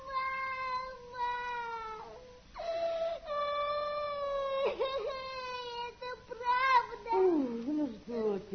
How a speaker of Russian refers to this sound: Ну, ты знаешь, не плачь, сыночек, и не слушай его.